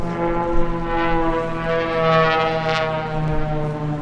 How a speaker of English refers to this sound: From sunup to sundown, aircraft engines are rarely silent at Oshkosh.